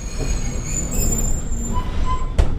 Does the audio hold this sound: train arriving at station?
yes